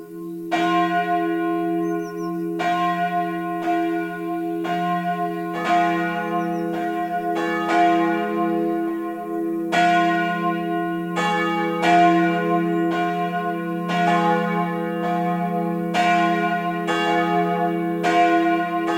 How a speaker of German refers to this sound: Es ist 12 Uhr. Das Mittagsläuten kommt heute von der evangelischen St. Veitskirche im mittelfränkischen Veitsbronn.